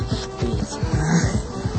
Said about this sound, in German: Da vorne, ein Auto.